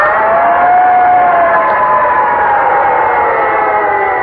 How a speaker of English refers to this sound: In fact, he wasn't very excited about breakfast until he heard a noise. He looked out the window, and there, roaring down the street, was a great big red fire engine.